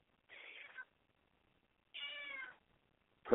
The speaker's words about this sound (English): My goodness. My cat's upset.